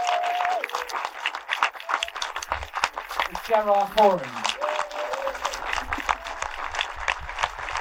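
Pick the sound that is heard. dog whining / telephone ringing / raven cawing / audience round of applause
audience round of applause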